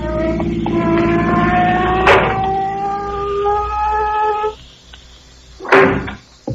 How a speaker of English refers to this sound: Look at that car coming up here. Looks like a cop in it. Oh, it is a cop.